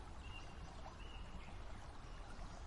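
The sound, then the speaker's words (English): A creek in Hestahava Woods, Denmark, flows in a steady, soft rush of running water, with a couple of faint, thin bird whistles in the background. “It's a creek in Hestahava Woods.”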